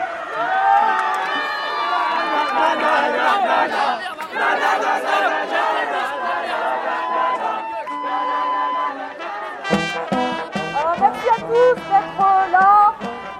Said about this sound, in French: La musique joue, tout le monde est en train de courir vers la sortie gardée par les CRS du Palais de Justice. Et on lève les bras et on crie victoire. Il y a des petits jeunes qui sortent, un à un, et leurs copains se font applaudir.